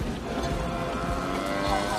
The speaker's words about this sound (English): Another cow. Actually, I think that was the same one.